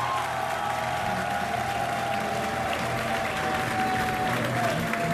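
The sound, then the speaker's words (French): Sustained audience applause for Olivier Collin, director of the Alliance française, at an event celebrating Central African artists: a dense steady wash of clapping at even loudness for about five seconds, with faint crowd murmur and a thin whistle-like tone running beneath it. “Cet homme que je vous demande d'applaudir, c'est le directeur de l'Alliance française, Olivier Collin.”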